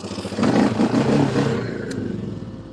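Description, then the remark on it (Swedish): A motorcycle engine revs loudly, its throaty roar swelling quickly and then easing off as it trails away over a couple of seconds, with no one speaking. “Vad var det? Har ni motorcykel i...”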